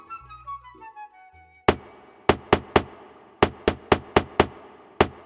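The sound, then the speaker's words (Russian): A crow's beak knocks on a door: about ten sharp, loud raps in uneven clusters, following a brief descending melodic phrase. No one speaks. “Клювом в дверь ворона била, пока всех не разбудила.”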